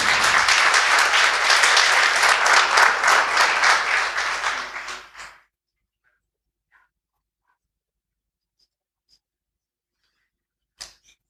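A crowd breaks into loud, dense applause that lasts about five seconds before quickly dying away, leaving silence broken only by a single sharp click near the end.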